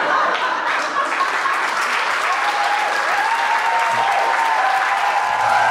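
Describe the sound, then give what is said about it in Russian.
Loud, sustained audience applause welcoming comedian Andrey Arapetov onto the stage, a dense steady wash of many hands clapping that holds at an even level for several seconds, with faint whoops or voices rising through it. “На этой сцене под ваши горные аплодисменты Андрей Арапетов!”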